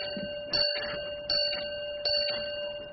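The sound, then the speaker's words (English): A railway signal box bell rings a four-bell code for a non-stop express in evenly spaced single strokes, each bright clang leaving a sustained metallic hum between hits. Clear, with no talking. “If it's non-stop, send four bells, you.”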